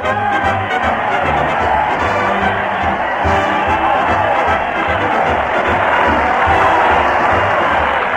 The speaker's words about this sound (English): That crowd cheer Fred Allen as he heads his weekly parade at the Old Town Hall.